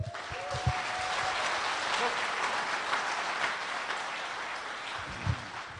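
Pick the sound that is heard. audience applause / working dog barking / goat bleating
audience applause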